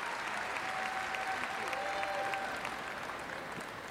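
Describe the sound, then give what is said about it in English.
A crowd applauds a woman, dense clapping at an even, sustained level for a few seconds with a faint hint of murmuring underneath. “Big of them to applaud her, to even though she's a woman and a government employee.”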